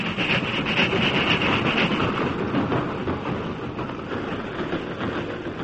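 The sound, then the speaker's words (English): A train engine rumbles steadily along the track, reaching the crest of Jackknife Hill and continuing westward, its loud, continuous clatter and grinding wheels filling the scene as it rolls past, with no voices. “The engine reached the crest of Jackknife Hill and continued westward without incident.”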